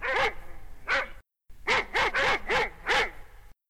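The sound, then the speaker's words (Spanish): A dog, Rufo, barks sharply at night after detecting movement, in two bursts: two barks, a brief pause, then five quick barks in a row. The barks are loud, with no talking. “Rufo era su perro. Había anochecido y cuando dormían, Rufo detectó movimiento.”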